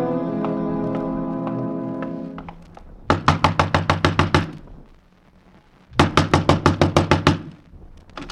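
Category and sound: impact, knocking on a door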